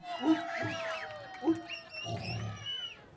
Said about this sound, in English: Steller sea lions, one of Astoria's most common species, vocalize with a low, rumbling growl.